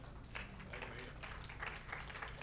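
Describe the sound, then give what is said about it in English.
An audience claps steadily for a couple of seconds, a dense, even patter of many hands at fairly low volume over a faint low hum, with no clear speech. “Yes, that's something worth clapping about.”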